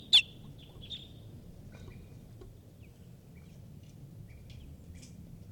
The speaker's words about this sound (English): And a wild bird is here giving alarm calls.